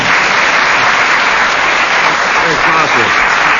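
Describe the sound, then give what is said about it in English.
A loud, sustained burst of audience applause for Tim Brooke Taylor, dense and steady clapping from many hands filling the whole stretch without pause. “Let's have a round of applause it. First for Tim Brooke Taylor.”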